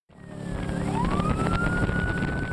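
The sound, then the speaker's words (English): A police boat siren on the Columbia River wails during a high-speed chase of a boat carrying illegal sturgeon, sweeping upward in pitch and holding a steady high tone over a loud, constant engine roar, prominent with no talking. “It's a high-speed pursuit in an unlikely place, the Columbia River. Wildlife cops are chasing a boat with illegal sturgeon on board.”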